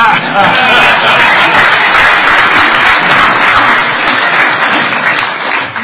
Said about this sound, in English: I'd like to give a big round of applause to the 1,200 people that make him look good.